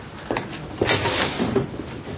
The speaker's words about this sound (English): Do we get a Christmas treat now? Yes, indeed you do. What is it? It's a door in the face. Here you are.